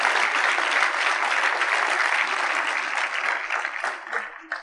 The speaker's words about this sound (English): Can you clap for the Holy Spirit for giving us good answers? Yeah.